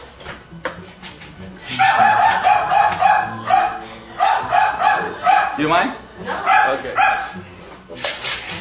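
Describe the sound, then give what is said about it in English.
A frightened dog barks repeatedly in sharp bursts, mixed with high whimpering yelps, while people exchange a few brief words; the dog is afraid, trying to hide and licking its lips during a flooding training exercise. “That dog is doing that because he's afraid.”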